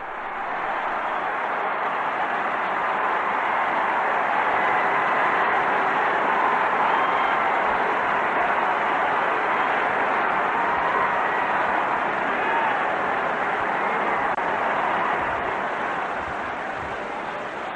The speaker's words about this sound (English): It has just been announced from the balcony at the Basilica. You can hear the crowd screaming. Let's just listen for a second.